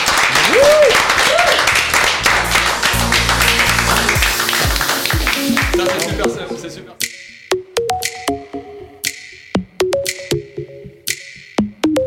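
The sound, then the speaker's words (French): A crowd breaks into loud, dense applause with some voices mixed in, then the clapping thins out over the last seconds into scattered, sharp individual claps. “Allez, applaudissez.”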